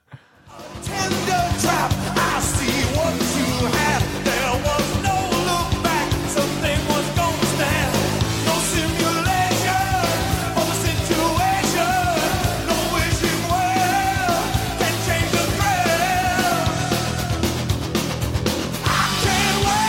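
A loud, dense rock song plays continuously after a brief silent start, with thick distorted instruments, steady driving drums and a raw, shouted-sounding vocal riding on top.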